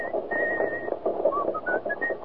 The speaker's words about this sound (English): What's that tune you're whistling?